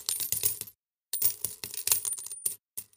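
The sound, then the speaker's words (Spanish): Coins clink and jingle in quick bursts, several metallic taps with a brief silent gap between clusters, fairly clear with no voices; coins found in the linings of a coffin. “se da cuenta que hay muchas monedas más en los forros del féretro.”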